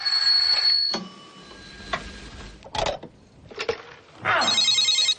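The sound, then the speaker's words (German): A telephone bell rings in loud, bright metallic bursts, with sharp clicks and knocks between rings, prominent with no voices present. “kann wohl mal jemand an das verdammte Telefon gehen?”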